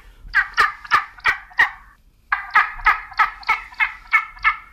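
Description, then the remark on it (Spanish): Spanish imperial eagle calls: two bursts of hoarse, barking notes repeated in quick rhythmic series, loud, with a short pause between them and no talking. “No, es un águila imperial.”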